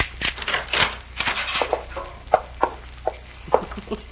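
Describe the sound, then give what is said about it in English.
A spare key jiggled and pushed through a door lock to push out the key left in the keyhole on the other side, making a run of sharp metallic clicks and light scraping rattles, with a few louder taps near the end and no voices. “Well, these keys are made so you can push them right out.”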